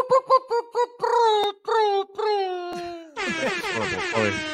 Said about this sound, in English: That was a very owl-like air horn from our friend